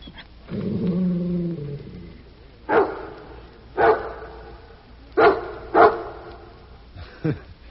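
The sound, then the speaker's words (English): A dog named Rin Tin Tin gives a low, rumbling growl, then lets out five sharp, loud barks spaced irregularly over several seconds, with no one talking. “Oh, this is your very own dog.”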